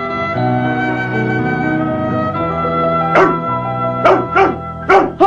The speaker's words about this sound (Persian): مخملم لب ایوون خوابیده، ولی بچه ها هاپو کومار بیداره و با دلشوره توی حیاط قدم میزنه. بعد انگار چیزی حس کرده باشه هاپ هاپ میکنه.